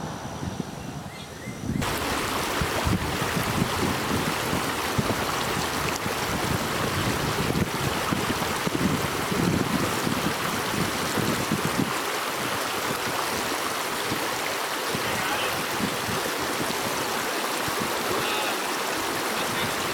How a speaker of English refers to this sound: Okay, it's pretty windy down here, so I doubt anybody can really hear what you guys will be saying, or were saying, or whatever.